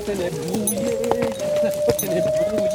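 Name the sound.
horse hooves clip-clopping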